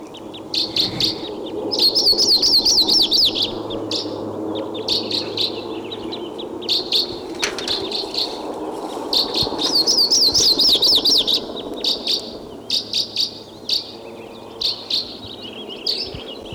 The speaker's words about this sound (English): Now, a minute later, 716, and I hear a Type 2 crossbill coming in.